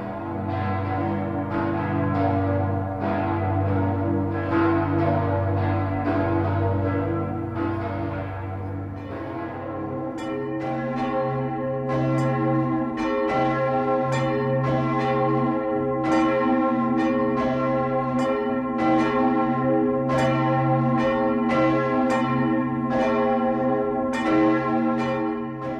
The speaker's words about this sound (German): Die ehrwürdigsten Glocken mittel- und ostdeutscher Dome sollen nun an das Wunder vor 20 Jahren erinnern.